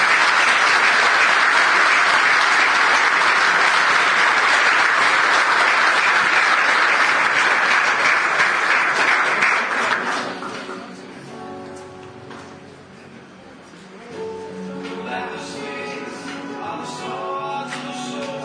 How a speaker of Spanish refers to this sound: Un aplauso también.